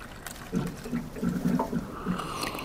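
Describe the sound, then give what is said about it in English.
An office water cooler gurgles with a run of soft, bubbly glugs in an uneven rhythm, fairly quiet, against faint room tone and with no one speaking. “And now, a little unwanted chit-chat by the water cooler.”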